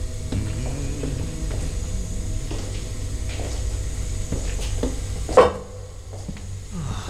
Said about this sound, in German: Er nimmt das Fleisch aus dem Kühlschrank.